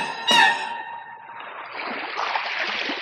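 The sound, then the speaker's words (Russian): A short bright chime-like hit, then a steady wash of rushing sea water that swells louder, like waves surging and splashing. No voices are heard. “Ну, позвольте, я слышу, волны гудят. Неужели море?”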